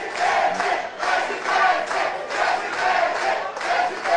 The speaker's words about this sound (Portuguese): Durante um evento na Grande São Paulo, Tarcísio foi recebido aos gritos de presidente.